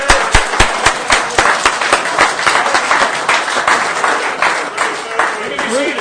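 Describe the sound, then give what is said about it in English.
A crowd gives a standing ovation to a speaker before his speech: sustained, loud applause with dense, rapid clapping, a few sharp, prominent claps, and faint voices and cheering mixed underneath throughout. “Wow, I got a standing ovation before I spoke.”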